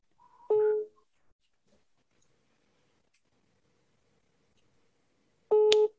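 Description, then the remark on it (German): A telephone ringing tone heard over a speakerphone: two steady tonal bursts about five seconds apart, each roughly half a second long, with near silence between them and no talking. “Und jetzt hoffen wir einfach mal, dass der rangeht.”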